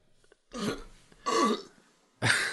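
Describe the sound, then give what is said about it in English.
Three loud burps in quick succession, each a rough, gurgling belch lasting about half a second, separated by brief pauses, with no talking. “Don't burp into the.”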